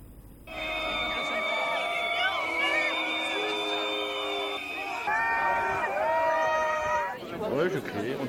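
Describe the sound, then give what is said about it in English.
A crowd in eastern France boos French President Emmanuel Macron loudly and steadily, many overlapping drawn-out tones and shrill whistles sliding up and down, sustained for roughly seven seconds before breaking into ragged noise. “French President Emmanuel Macron has been loudly booed by crowds in eastern France.”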